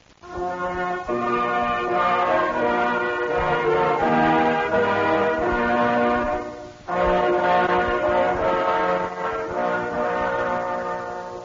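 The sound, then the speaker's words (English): A loud steam train whistle sounds in two long, sustained blasts with a brief pause between them, rich and droning, over the low rumble of the train traveling northward through the hills of Pennsylvania on 18 November 1863, its cars draped with flags and filled with Union Army soldiers. “This is the 18th of November, 1863, and in the hills of Pennsylvania, a train is traveling northward.”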